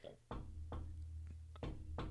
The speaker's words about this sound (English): Oh my God, listen. Do you hear that? Is that knocking?